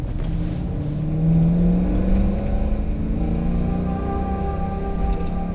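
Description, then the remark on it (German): A car driven by Peter revs up and accelerates, its low droning pitch rising and then settling into a steady hum as the vehicle drives away. No voices are heard. “Gib Gas, Peter!”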